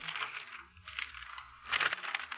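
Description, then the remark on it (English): Pages of a thick telephone book being flipped to look up a phone number, papery rustles and swishes in three quick bursts, fairly loud, with no talking. “The telephone book. Listen, Mr. Avery. The sound of the flipping pages.”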